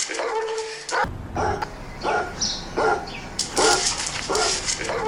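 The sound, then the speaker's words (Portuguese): A small dog yips and barks in short, high bursts mixed with whimpering cries, fairly loud against a steady low rumble of background noise. “Que sorte que você teve, cachorrinho.”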